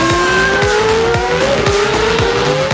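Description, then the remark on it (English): A Formula One car engine roars in Miami during Formula One weekend, by the beach and sea in perfect weather, at a loud, steady high pitch, its whine climbing gradually as it accelerates, with repeated rhythmic thumps and a faint tire squeal underneath. No one speaks. “Perfect location, perfect weather, beach and sea on one side, and Formula One roaring on the other side.”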